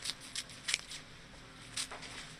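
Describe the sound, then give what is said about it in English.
Sharp, crisp snips of scissors as design students cut buttons and zippers from jackets, pants, and sweaters, a handful of quick irregular clips with soft rustling of cloth in between and no voices. “Recently, he handed out scissors to a group of design students from Otis College, Caltech, and Pasadena's Art Center College of Design.”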